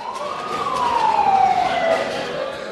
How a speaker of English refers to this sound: An ambulance has just arrived now, bringing casualties from the latest airstrike. They're being treated in the emergency department.